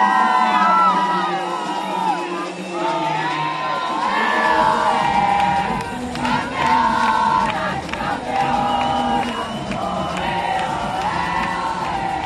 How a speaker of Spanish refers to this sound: Gritan el campeón, las campeonas